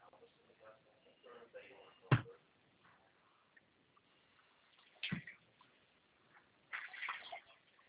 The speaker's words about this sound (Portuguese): Barulhinho de água? Um pouco. O que está acontecendo aí? Estou falando com você e arrumando cozinha.